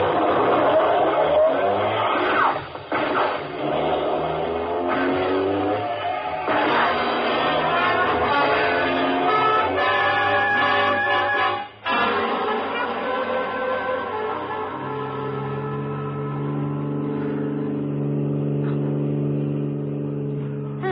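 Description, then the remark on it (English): A car engine roars loudly as it accelerates, its pitch climbing through the gears, then settles into a steady high-speed drone that continues to the end. “You picked a good car for a hop.”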